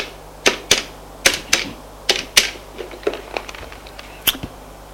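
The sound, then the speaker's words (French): A telephone number being dialed in a hospital office: a string of about a dozen sharp, crisp clicks, loud at first and often in quick pairs, then softer and more irregular, with no voices. “Son téléphone et fait un numéro.”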